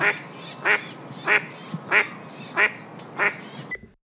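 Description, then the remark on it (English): A mother mallard hen calls to her chicks, quacking in a steady series of about six evenly spaced, clear calls, with faint higher chirps between them against a soft outdoor background. “This specific sound of a mother mallard duck calling to her chicks is going to be very crucial in just a few moments.”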